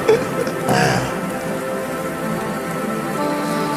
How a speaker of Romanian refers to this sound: niște ploaie asta.